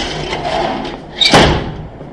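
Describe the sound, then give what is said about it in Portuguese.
A window slides shut: a soft scraping rumble builds, then a single sharp thud as it closes, followed by a brief fading rattle. No one speaks. “Acho que eu vou fechar aqui, porque ligaram o ar com a janela aberta.”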